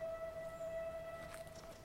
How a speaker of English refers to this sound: Just heard the steam train go past. I love this wood. The steam train echoes all the way around it.